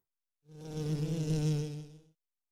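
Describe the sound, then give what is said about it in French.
A fly on a baby's diaper buzzes steadily for under two seconds, a droning hum that swells in and tapers off, with no voices around it. “La mouche est sur la couche du bébé.”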